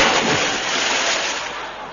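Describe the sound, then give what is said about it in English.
A loud splash as a man falls into water, followed by a couple of seconds of churning, rushing water that slowly eases off. No voices. “He's falling in the water.”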